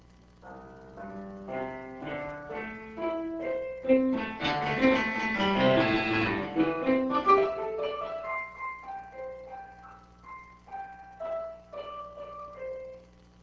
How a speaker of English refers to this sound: Now let's try the pink noise, the one of F correlated sequence.